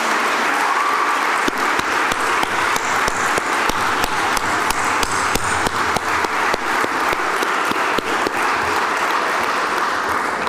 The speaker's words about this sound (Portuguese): Não foi por acaso, por isso, que trouxeram aqui ao Parlamento o Grupo Folclórico de Cerveira e a Academia de Música Fernandes Fão, a quem eu peço uma redobrada salva de palmas, porque foram magníficos, magníficos, parabéns.